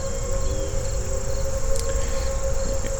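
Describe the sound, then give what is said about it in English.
Tornado sirens wail in a long, steady held tone over a rumbling outdoor background, with a thin, high, insect-like hiss running throughout and no voices. “Tornado sirens are going off.”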